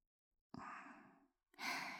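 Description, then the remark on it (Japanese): Heavy, rough breathing very close up against the back of the neck: a long, loud exhale followed after a brief pause by another strong, breathy gust. No talking. “息遣い、すごく荒い。”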